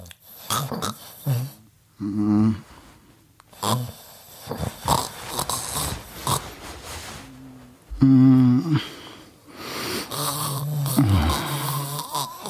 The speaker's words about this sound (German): Schatz, du schnarchst. Das ist der Wein, der atmet.